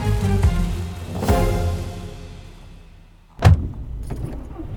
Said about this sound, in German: Die Sonne sinkt langsam über der Mühle und das Auto der Familie rollt zurück auf die Landstraße.